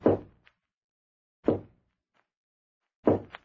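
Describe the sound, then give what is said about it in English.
Three slow, heavy knocks on a door, evenly spaced about a second and a half apart, each a solid thud with a faint rattle after it, separated by silence. “Someone's knocking.”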